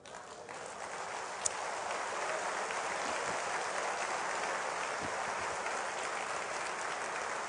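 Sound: audience applause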